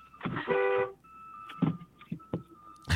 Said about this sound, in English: just honked at somebody and flipped him off. No, what happened? Wait, are you okay,